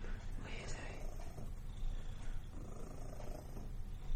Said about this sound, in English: that's enough with the purring.